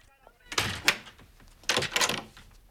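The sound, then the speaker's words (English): A door shuts with a solid thunk as Meena goes back inside, and about a second later a second clattering burst follows as she locks the door behind her. Both sounds are fairly loud. “While the family bundle Aman into their car, Meena goes back inside and locks the door behind her.”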